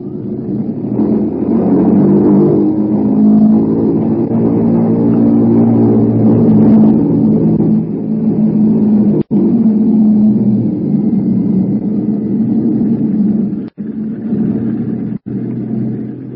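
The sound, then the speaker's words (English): Loud, steady drone of the heavy piston engines of the bomber Bumblebee, lead ship of the 236th Wing, running up at the head of the runway, a deep harmonic roar that swells and holds with slight pitch shifts, punctuated by a few sharp clicks near the end. “The mills of the gods began to grind, I would say, while we were completing our engine run up at the head of the runway.”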